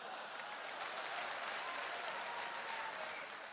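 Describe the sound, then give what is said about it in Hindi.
A crowd claps steadily for several seconds, a dense, even wash of many hands with no break, holding at a constant loud level throughout. “और ताली तो आप इस बात पर बजाएंगे, जिस लड़की को लेकर भागा था अब उसको देखते ही भागता है।”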